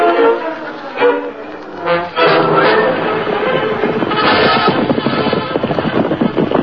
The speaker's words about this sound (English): Isn't that somebody riding out of the canyon? It isn't Tonto. A black horse. Might be the sheriff.